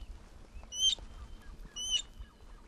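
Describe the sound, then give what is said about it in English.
Two sharp, wheezy lapwing calls ring out about a second apart, each a rising-falling squeal, heard over a low rumble of wind and background noise. “That was a lapwing, a bird which I never caught sight of. Only the microphone caught that one.”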